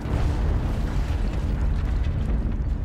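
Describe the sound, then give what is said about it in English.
A loud, deep explosive roar fills the whole moment: a crash and double explosion in a North London street, a sustained rumbling blast with crashing debris-like texture and no voices, heavy throughout. “Almost instantaneously, there was a crash and a double explosion in the street to my right.”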